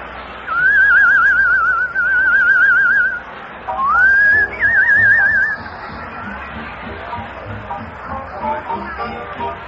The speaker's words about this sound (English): Come on, I'll whistle a little number. I heard a little number in France this summer.